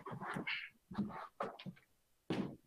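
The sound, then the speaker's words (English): A dog that needs to be let outside gives a handful of short, uneven barks or whines in separate bursts, with a louder, sharper one at the end and no talking. “Dog needed to get out.”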